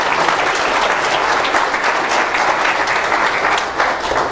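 An audience in a church breaks into loud, sustained applause for Jesus, dense overlapping clapping that holds steady for several seconds with a faint dip near the end, and no one speaking over it.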